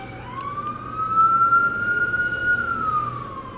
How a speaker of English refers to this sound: Had that alarm. That's good. The alarm woke me up.